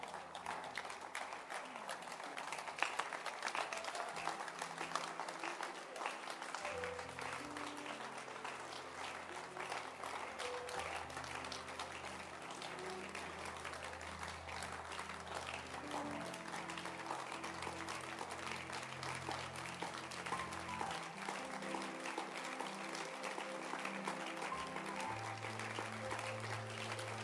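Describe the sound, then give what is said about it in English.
A church audience claps steadily and loudly at the close of the service, a dense wash of hands over sustained, shifting low chords from a keyboard or organ. “It's your choice to clap or not to clap.”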